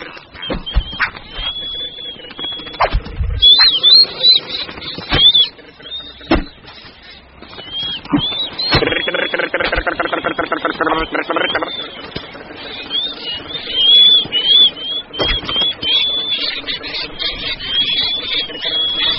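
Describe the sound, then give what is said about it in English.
An Anutan hunter imitates noddy terns with his own preferred voice call to lure them closer to his nets: high, reedy whistling chirps repeated over and over, broken by sharp clicks and bursts, fairly loud and continuous throughout. “The noise will lure their quarry closer to their nets.”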